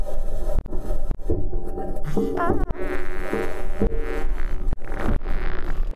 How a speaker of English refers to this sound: And then here is the sound of Perseverance driving on the surface of Mars.